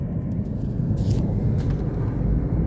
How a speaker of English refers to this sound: I don't even have to know the word bridge. I know there's cars going above me. That's all that matters.